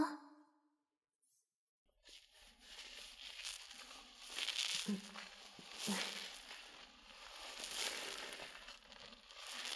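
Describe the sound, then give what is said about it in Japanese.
Wet crackling and squishing of well-lathered, foamy shampoo being scrubbed into hair, a steady rustle of fingers working the lather that starts after a brief quiet moment and continues throughout. “めっちゃ泡立てた。”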